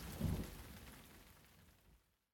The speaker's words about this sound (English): The sky got darker. The rain got heavier. And in the middle of the night, a massive storm swept through the forest.